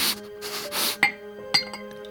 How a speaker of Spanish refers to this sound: Vertió una generosa cantidad en uno de los vasos que estaban al lado.